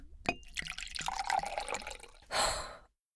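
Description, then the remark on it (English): Water pours into a glass, a bright trickling stream with small clinks and drips, followed by a short breathy sigh-like gulp near the end. “Need a glass of water?”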